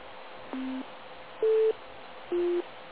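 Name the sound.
radio repeater courtesy tones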